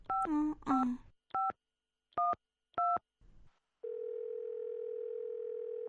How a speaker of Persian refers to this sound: راش میگه، نه همین کارم میکنم، برش تلفن میکنم ببینم که چرا نامده. باش که نمبر تلفن چه بگیرم.